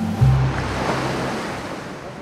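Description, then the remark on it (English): Ocean surf at low tide washes in a steady, broad hiss and rumble, holding an even loudness throughout, with a brief low tonal hum at the very start. “It's low tide, so it's going to be a little crunchy, a little quick.”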